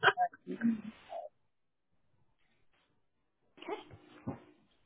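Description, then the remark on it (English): Dogs play fighting, with two bursts of growling, yips and scuffling noise separated by a silent pause. The sounds are close and fairly loud. “I put myself back on mute because my dogs decided this was a good time to play fight right next to me.”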